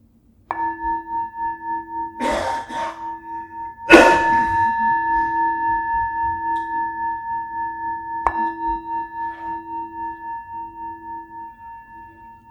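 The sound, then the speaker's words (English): A meditation bell is struck a few times, its clear ringing tone sustaining with a gentle pulsing waver and slowly fading away. No one speaks. “As the sound of the bell fades, just come into the body as much as you can, bringing an attitude of curiosity and kindliness.”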